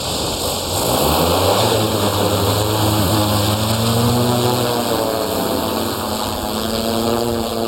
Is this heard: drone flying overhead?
yes